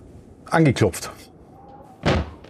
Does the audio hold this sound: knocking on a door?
yes